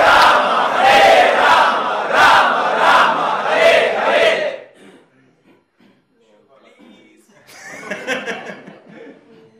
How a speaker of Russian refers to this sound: громко кричать Харе Кришна! Харе Кришна! Кришна! Кришна! Харе! Харе! Харе!